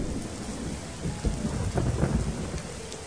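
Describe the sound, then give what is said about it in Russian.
Steady, warm, ringing rain hisses throughout while deep thunder rumbles roll underneath, swelling louder toward the middle of the short shower before easing slightly. No voices are heard. “А тут дождик начался. Звонкий такой дождик, веселый, теплый-притеплый.”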